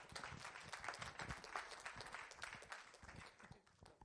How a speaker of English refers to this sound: Yeah, let's give her a clap.